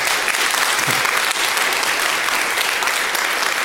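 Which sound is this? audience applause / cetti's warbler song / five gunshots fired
audience applause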